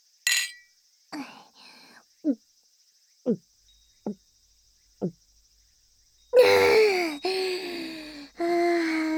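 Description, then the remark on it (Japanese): A quick bright clink of glasses in a toast, then four evenly spaced gulping swallows of slightly lukewarm barley tea, followed by a long, satisfied breathy exhale and a contented voiced sigh. “乾杯。”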